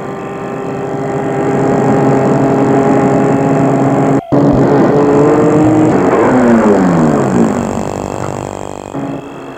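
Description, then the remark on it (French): A car engine hums steadily and grows louder as it comes toward a person, then its pitch drops as it slows and comes to a stop in front of him. No one speaks. “Tout à coup, il voit arriver vers lui une voiture.”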